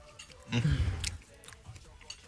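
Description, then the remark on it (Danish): Crunching as someone bites into a salted pretzel stick covered in still-melted chocolate, a short burst of crisp chewing followed by quieter, softer munching. “Det salte sammen med chokoladen, som stadigvæk er smeltet, selvom man bliver lidt kølig. Det knaser lidt.”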